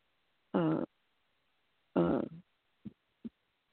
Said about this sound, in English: Excuse me, Saint. I had to burp.